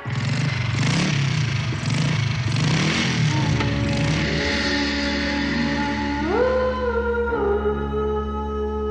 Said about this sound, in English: How did you decide to get in the screeching wheels and the motorcycle revving up, all the sound effects? Why did you decide to put it in?